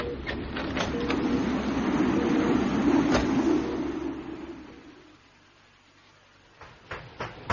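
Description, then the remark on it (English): A door is opened to a blast of wind: a loud, steady rush roars for several seconds with a few knocks and clicks, then drops away, leaving near quiet before a handful of sharp door-like clicks. “Now watch out for the blast when I open the door.”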